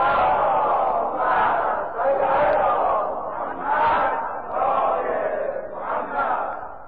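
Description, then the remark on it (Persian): A large crowd chants salawat loudly in unison in honor of the Prophet, the collective voices rising and falling in about five rhythmic surges over several seconds, sustained and full without pause. “انشاءالله که همیشه صلوات همون رو بلند بفرستیم، یه صلوات بلند خواهد کنیم.”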